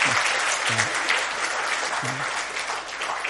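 A crowd practises clapping for people who will come up out of the water, breaking into sustained applause, a dense, steady wash of many hands clapping at once, with a few brief low voices or shouts poking through the noise.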